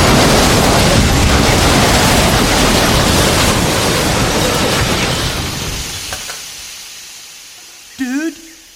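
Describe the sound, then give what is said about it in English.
A train crash as a train meets another train coming at it on the same track: a loud, roaring wall of crunching noise that fades gradually over several seconds, followed by a few scattered clatters and a brief voiced groan at the end. “Dude, there's another train on this track. Buddy, it's coming at us.”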